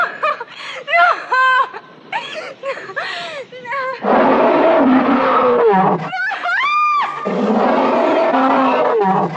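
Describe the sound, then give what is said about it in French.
High, wavering screams from actress Jessica Lange give way to a loud, rumbling roar from Kong in the 1976 film King Kong, as Kong discovers the woman offered to him as a sacrifice, surging twice and overpowering, with a brief shriek between the two bellows. “Tout comme Favre avant elle, Jessica Lange crie et on entend aussi le rugissement de Kong.”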